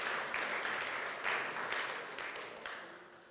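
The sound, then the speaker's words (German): A crowd claps steadily, a dense, even patter of many hands at moderate loudness that gradually tapers off, with no voices over it. “Auch das weniger groß, aber ein Applaus.”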